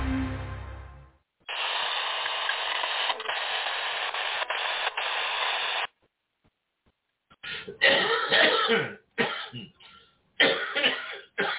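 A run of loud coughs and raspy throat clearing in a few harsh bursts, coming after a steady stretch of static-like hiss and a short pause.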